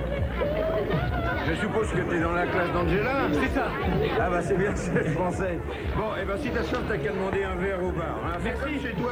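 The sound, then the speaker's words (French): A dense hubbub of many overlapping voices fills the whole stretch, a steady crowd chatter at a party with no single speaker standing out, holding a constant loud level throughout. “Il va se perdre dans la foule en essayant de ne pas se faire remarquer.”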